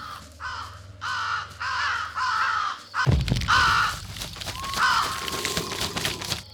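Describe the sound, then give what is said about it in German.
Raven caws ring out in a loud, rhythmic series of four harsh calls, followed by a sudden crash and more scattered cawing over a noisy, busy background. “Wische nach unten, um dich vor den Raben zu ducken.”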